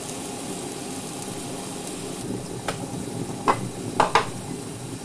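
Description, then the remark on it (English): A kettle rumbles and hisses steadily as it is brought back to the boil during cooking, with a few sharp clicks and taps toward the end, without any talking. “I started boiling it earlier, so I'm just going to quickly bring it back to the boil.”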